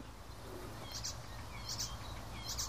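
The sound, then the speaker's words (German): Three short, high-pitched bird phrases repeat at a steady interval, each a quick bright burst with elements of blackcap song following a blackbird-like part, heard faintly over a constant low rumble. “Da sind auf jeden Fall in meinen Ohren auf jeden Fall Elemente der Grasmücke, Mönchgrasmücke mit verbaut gewesen, eben nach diesem Amselähnlichen.”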